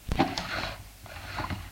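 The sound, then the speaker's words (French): A desk drawer holding ballpoint pens of all kinds and felt-tip markers is pulled open, with a quick wooden scrape and a light rattle of its contents, followed by a softer shuffle a moment later. “Il ouvre le tiroir de son bureau.”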